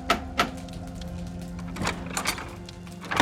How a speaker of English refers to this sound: After midnight, someone knocked.